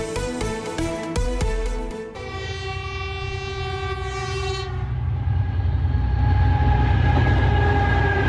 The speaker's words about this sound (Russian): Внимание, внимание! Поезд «Москва-Адлер» отправляется с третьего пути. Ну, вот примерно так он и действительно отправляется.